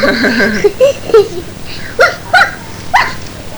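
A dog barks in short, sharp bursts to say hello, about half a dozen yappy barks spaced unevenly, starting with a whiny, yelping tone and ending in clearer barks, moderately loud.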